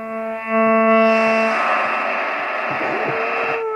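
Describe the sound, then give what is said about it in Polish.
Loud, steady long-wave radio static from a Unitra Ultra radio inside a tower: a broad hiss laced with droning, buzzy interference tones, continuing unbroken for a few seconds with no voices. “Jeden wielki szum.”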